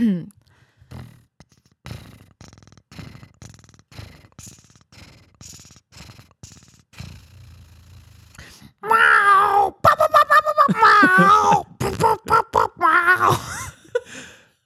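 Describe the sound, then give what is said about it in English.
A person imitates a cat making dubstep noises: quiet clicks and grunting sounds give way to loud, wobbling, warbly meow-like wails with choppy rhythmic pulses and sliding pitch. A brief exclamation is spoken. “Sure, I will be a cat making dubstep noises.”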